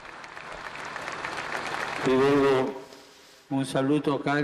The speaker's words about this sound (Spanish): Un aplauso fraternal a todos ellos.